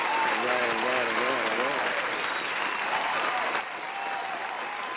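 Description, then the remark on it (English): An audience at a music showcase claps steadily for several seconds, dense and sustained applause with cheering voices rising and falling underneath, easing slightly toward the end. “Well, how about me giving them an applause that they will keep on supporting you through your music journey?”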